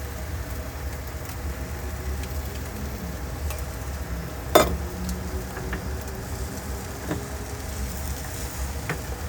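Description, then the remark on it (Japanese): Steady sizzling of egg for a Japanese rolled omelette (tamagoyaki) frying in a pan, a dense crackling hiss throughout with a low rumble underneath, broken by one sharp clink midway and a couple of fainter taps. “なかなか難しい卵焼き、だから毎日作ってる人とかマジすげえよ。”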